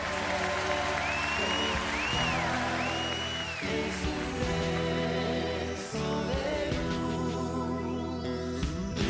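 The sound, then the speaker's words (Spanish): Sustained applause from a crowd for the performers, a dense steady clapping texture mixed with loud music holding tonal chords that shift every couple of seconds; no one speaks. “…, este aplauso es para ustedes. Suena un aplauso, no.”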